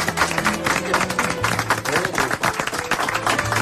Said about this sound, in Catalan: Un aplaudiment per Elisenda Roca.